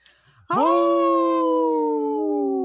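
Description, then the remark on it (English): A wolf howls once, loud, starting abruptly after a brief hush and holding a long, smooth, slowly falling note until the end. “In this portion of the show, we like to support our United States wolves and bear populations.”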